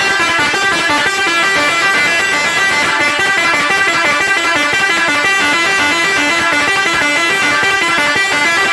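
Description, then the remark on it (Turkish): A loud Seger-brand musical air horn on a truck, known as an "Arab horn", plays a rapid, continuous melody of bright, shifting tones, unbroken for the whole stretch with no voices. “Ve şimdi bu dinlediğimiz kornada Arap kornası diye geçiyor. Havalı Arap kornası.”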